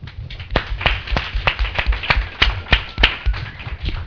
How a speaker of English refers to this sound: So, first of all, I would like a hand of applause